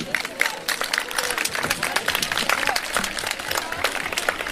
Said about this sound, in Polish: Nie ma dzisiaj przegranych, za to oklaskami. Pogratulujmy dwóm zespołom, oni są zwycięzcami.